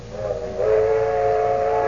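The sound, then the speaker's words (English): A train whistle blows one long, steady blast, its chord-like tone swelling louder partway through and holding. It is prominent, with no voices. “They're traveling south by train this year.”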